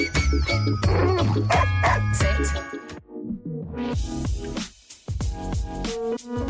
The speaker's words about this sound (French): a élaboré une chanson conçue spécialement pour nos toutous en testant près de 500 sons sur 25 chiens